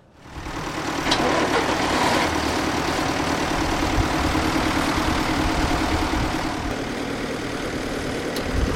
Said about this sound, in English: Roger's got the tractor actually started.